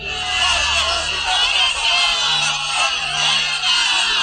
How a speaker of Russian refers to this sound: И вот любимая народная забава, публичная казнь. Праздник на главной площади города. Толпа в экстазе. Люди смеются, улюлюкают. Отцы сажают на плечи детей, тычут пальцем на виселицу.